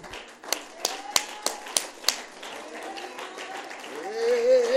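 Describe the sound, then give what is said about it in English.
An audience claps to the Lord as a praise offering in a quick, even rhythm, about six sharp claps, then fades into a low murmur as a voice begins to rise toward the end. “Would you clap to the Lord a praise offering?”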